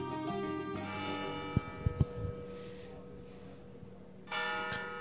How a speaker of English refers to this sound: The bell tolls